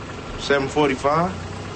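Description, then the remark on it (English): A car engine idles with a low, steady rumble throughout, while a voice briefly speaks over it in three short bursts. “I don't know who car that is.”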